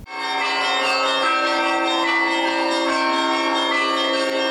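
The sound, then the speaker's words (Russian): Church bells of the Holy Kazan Convent in Troitsk peal during a procession, as sisters, singers and parishioners come out of the convent grounds, in a dense, ringing overlapping chime, loud and sustained throughout with rich harmonic tones and no voices. “Под колокольный перезвон из ограды Свято-Казанского женского монастыря Троицка выходят сестры обители, певчие и прихожане.”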